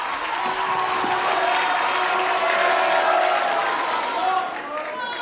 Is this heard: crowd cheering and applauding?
yes